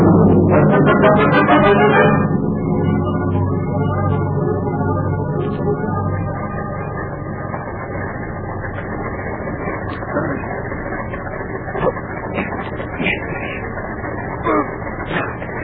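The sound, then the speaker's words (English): A truck engine in a closed garage turns over with a loud, rough burst in the first couple of seconds, then settles into a steady low idle rumble that continues with faint clicks and rattles. “Start the motor.”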